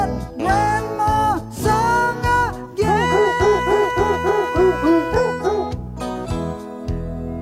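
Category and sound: animal, dogs barking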